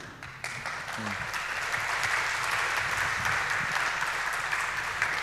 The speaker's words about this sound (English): So please give a warm applause and have fun at that talk.